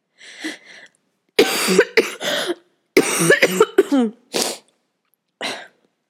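A harsh coughing fit: bursts come in ragged clusters, some rapid and strained, with brief pauses between, then a couple of weaker coughs trailing off near the end.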